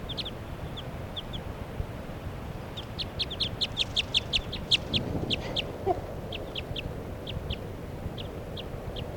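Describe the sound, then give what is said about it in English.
A light-colored female wild bird, perched right next to a cage, calls in response to another bird in a run of sharp, high chirps, sparse at first, then a quick dense burst, then spaced out again over a steady low rumbling background. “It's calling in response to bird 3 at 7.”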